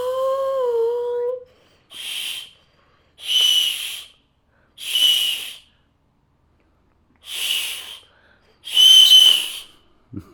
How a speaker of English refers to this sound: I'm just whistling and then dragging the slide. Watch, watch. Just blowing.